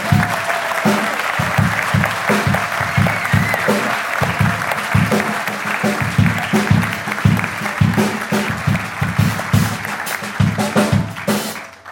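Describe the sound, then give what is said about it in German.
An audience claps for a story read aloud, steadily for about twelve seconds, a dense, even wash of many hands at a fairly loud, sustained level with no voices on top. “Applaus nun für Shopee.”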